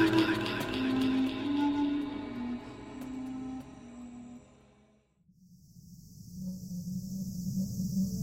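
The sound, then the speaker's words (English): A sustained tonal passage fades out, then a steady, shrill buzzing of cicadas swells in, continuous over a low rumbling background, at night in warm, sticky air. “I awoke to the chirp of cicadas and the air was warm and sticky like summer.”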